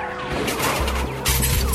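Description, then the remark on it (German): A car rear-ends another car that is slowing down to turn: rumbling engine and tire noise build up before a loud crunching impact, followed by a sustained clatter of metal and debris, with no voices. “Und so bemerkte er viel zu spät, dass der Wagen vor ihm den Blinker setzte und langsamer wurde, um abzubiegen.”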